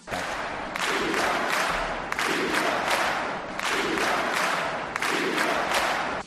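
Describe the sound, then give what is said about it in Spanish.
A loud crowd shouts in unison at a swearing-in ceremony, chanting in support of the prisoners in repeated rhythmic surges about once every second and a half, with no break between the bursts. “Y en esa toma de posesión, en esta casa, que es la Moncloa, que amenaza ya ruina, se oyó gritar a favor de los presos.”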